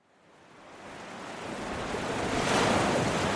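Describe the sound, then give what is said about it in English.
Atlantic Ocean waves wash against the shore at San Luis, Senegal, a fishing town between the river and the sea, in a steady roar that swells gradually louder, building to a broad hiss of breaking surf near the end. There are no voices. “At the edge of the Atlantic Ocean, the city of San Luis, Senegal, is sandwiched between the river and the sea.”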